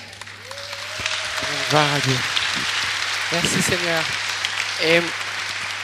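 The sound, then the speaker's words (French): An audience applauding Jesus Christ in a dense, steady wash of clapping that lasts the whole time, while a few voices call out over the noise. “Et vraiment, on peut applaudir Jésus-Christ, frères et sœurs. On peut l'applaudir.”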